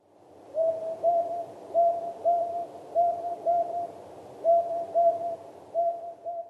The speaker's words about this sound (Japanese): アオバズクです。